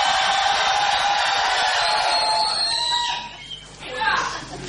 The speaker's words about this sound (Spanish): No, pero podíamos gritar en general. Sí, gritos ahora, de catárticos. Uno, dos, tres.